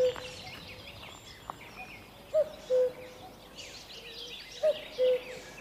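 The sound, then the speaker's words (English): A common cuckoo in Kildare calls its two-note "cuck-oo" twice, clear, over a busy background chorus of smaller songbirds chirping and trilling. “they're making the calls of a cuckoo”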